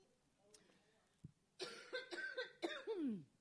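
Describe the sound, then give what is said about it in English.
A rapid fit of several harsh, raspy coughs caused by pollen, the last one trailing into a hoarse, throaty exhale, following a moment of near silence. “just so you all know, pollen is really bad today. That's why I'm coughing, not because I got COVID.”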